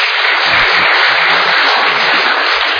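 An audience claps steadily for the teams of college, career and adult volunteers, a dense, even wash of many hands applauding at full loudness for the whole stretch, with no voices.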